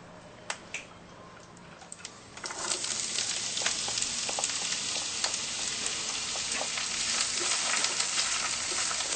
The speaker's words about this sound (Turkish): Doğradığım soğanların bir kısmını tavaya koydum. Kalanını doğramaya devam ediyorum.